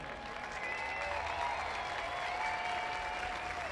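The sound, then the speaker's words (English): A crowd at a sports event applauds honored women before the first pitch, steady dense clapping sustained at an even level throughout, with faint whistles and cheers rising above the claps. “Ladies and gentlemen, please join us in a round of applause for these amazing women.”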